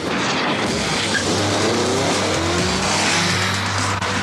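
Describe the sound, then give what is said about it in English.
A Roadster electric sports car, floored by Top Gear's Jeremy Clarkson, accelerates hard to 12,500 RPM, its motor whine climbing steadily in pitch over a loud, constant roar of tires and wind, with no voices. The motor is the size of a watermelon with one moving part. “Top Gear's Jeremy Clarkson took one out for a spin and marvels as he floors it.”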